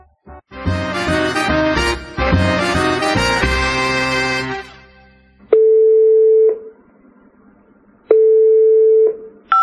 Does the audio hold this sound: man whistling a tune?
no